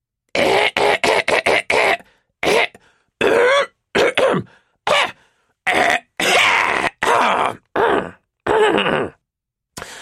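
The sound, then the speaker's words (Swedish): A voice clears its throat loudly and harshly over and over through a loudspeaker, about a dozen rough, gravelly bursts in a choppy, uneven rhythm. The sound is forceful, with no talking around it. “Sam gav Max en trött blick samtidigt som Zenok harklade sig så att det skrällde.”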